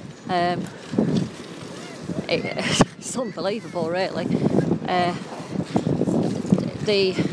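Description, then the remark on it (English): Strong wind buffets a microphone outdoors on the seafront at Tynmouth, Devon, roaring and gusting in uneven bursts beneath a person talking while walking along the promenade, with sharp thumps as gusts hit. “I have no idea whether you'll be able to hear me very much, as I am audio booing from a very, very windy Devon Tynmouth seafront.”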